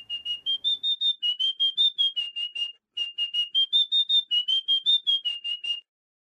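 A small pipe whistle plays a simple tune alone in bright, high notes. Quick, evenly tongued notes form two similar phrases separated by a brief pause.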